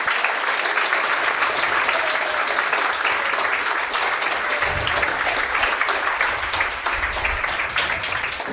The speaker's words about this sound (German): Vielen Dank für eure großartigen Präsentationen. Einmal noch Applaus an euch alle.